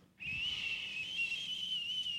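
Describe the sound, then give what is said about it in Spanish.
A soft, steady whistle begins after a brief pause and holds a sustained, slightly wavering tone, a voice imitating a gentle breeze, with no talking over it. “Sin embargo, vino después del fuego vino un viento apacible, un silbo.”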